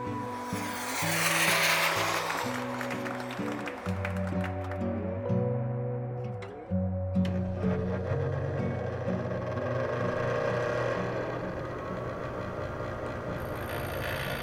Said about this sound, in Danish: mens han skar videre med en eller anden vinkelsliber